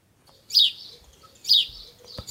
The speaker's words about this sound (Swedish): Gråsparvarnas kvittrande är det enda som hörs.